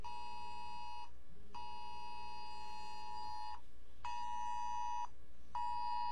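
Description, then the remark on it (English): A cell phone emergency Amber Alert tone blares loud, a harsh, buzzy electronic drone sounding in long repeated bursts separated by brief gaps, with no voices. The alert is for San Antonio, Texas, seeking a 2010 black Dodge Nitro. “I'm sorry, that's my cell phone going off right here. It's saying there is an Amber Alert.”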